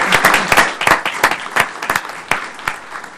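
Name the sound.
audience applause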